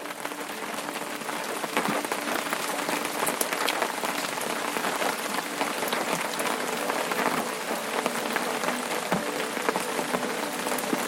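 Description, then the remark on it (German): Steady rain patters on an umbrella, a dense, even crackle of many small drops with brief sharper taps scattered through, constant in loudness for the whole stretch, no voices. “Die Tropfen tanzen auf dem Schirm und das feuchte Gras gibt unter deinen Schritten sanft nach.”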